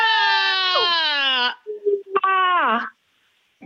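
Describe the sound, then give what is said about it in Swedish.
Three voices from Örvik scream together on the radio to welcome spring, loud and sustained, holding a high, steady pitch for about a second and a half, then after a short break another scream rises and slides downward before cutting off into silence. “Då tar jag ett steg bakåt och säger 3, 2, 1, skrik!”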